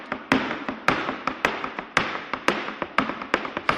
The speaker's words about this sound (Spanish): Bueno, esto es un taconeo, ¿no? Sí. De flamenco, ¿no? Sí. Hombre, no es que sea capaz de adivinar de qué bailador se trata con el sonido del taconeo.